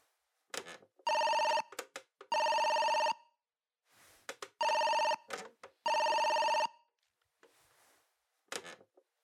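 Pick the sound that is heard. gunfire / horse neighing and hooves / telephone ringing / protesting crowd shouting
telephone ringing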